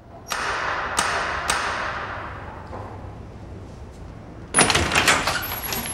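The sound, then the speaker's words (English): Three sharp knocks on a door land a moment apart, followed by a pause and then a louder rattling clatter of the door being pulled open and pushed back, distinct with no talking. “Kate keeps the door from closing.”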